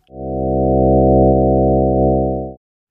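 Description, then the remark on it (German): A steady synthetic chord of many evenly loud, stacked low tones drones for about two and a half seconds, buzzing and horn-like like a foghorn, then cuts off abruptly. “Sind sie alle gleich laut, klingt der Zusammenklang so und erinnert eher an ein Nebelhorn.”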